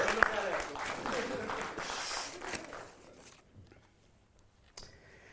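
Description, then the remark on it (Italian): Audience applause, a dense crackle of many hands clapping for about three seconds before thinning out and fading to near quiet, with one brief knock near the end. “Un applauso per”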